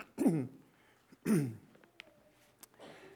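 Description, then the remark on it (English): Two forceful coughs from a preacher during a Bible sermon, with a throaty, rasping clearing quality, about a second apart, followed by a few faint clicks and a soft breathy rustle near the end. “Because today is one of those coughing days. So, what can I say? I'm going to cough.”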